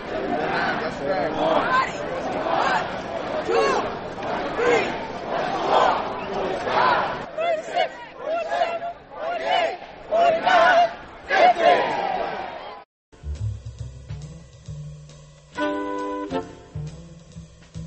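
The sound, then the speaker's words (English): A protest march crowd in New York City, protesting the police killing of Sean Bell, chants together in loud, rhythmic bursts, voices rising and falling in a repeated call; the chanting ends and gives way to a brief musical passage. “And you've been listening to a New York City march protesting the police killing of Sean Bell.”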